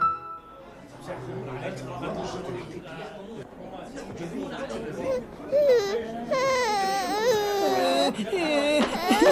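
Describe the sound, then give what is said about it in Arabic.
A child cries and sobs continuously, with rising wailing harmonics growing louder toward the end, mixed with other voices talking. “لا تبكي يا عزيزي.”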